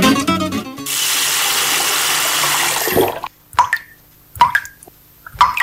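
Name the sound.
water running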